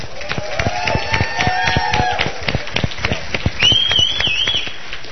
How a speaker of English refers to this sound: And so I think we just all give it up, give a huge round of applause for Mr. Dave Hall.